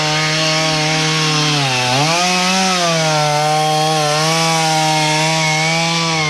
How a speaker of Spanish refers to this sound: Lo que se escucha de fondo es una motosierra que está justamente trozando parte del trozo, de algunos trozos que efectivamente cayeron.